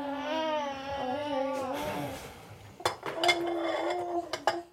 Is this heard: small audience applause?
no